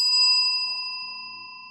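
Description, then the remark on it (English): A hand bell is struck once and rings out with a bright, clear metallic tone, its shimmering overtones slowly fading over a couple of seconds. No one speaks. “Okay, so, you know, what the hell's the bell all about?”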